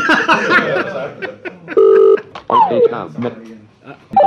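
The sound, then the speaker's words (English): A telephone rings with a short, loud electronic tone burst in the middle, surrounded by voice-like chatter and a few quick sliding beeps. “We answer this phone.”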